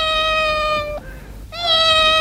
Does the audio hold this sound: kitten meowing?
yes